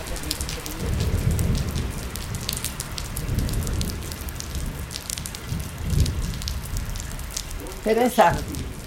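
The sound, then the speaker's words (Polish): Steady, dense rain from a thunderstorm patters and crackles across the whole stretch, with low rumbling murmurs underneath and a brief voice rising near the end. “Jest burza, idzie szybciej.”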